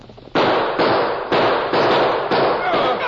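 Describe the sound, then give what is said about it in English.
A rapid volley of loud revolver shots, roughly five or six sharp cracks about half a second apart, each blast's harsh noisy tail running into the next, with no talking. “Hold your fire.”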